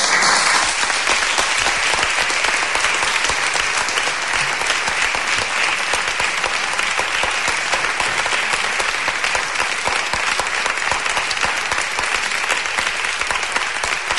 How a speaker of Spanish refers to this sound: Gran ovación al pregón disertado por Diego Lopa, que nos ha mantenido a todos atentos hasta el último minuto.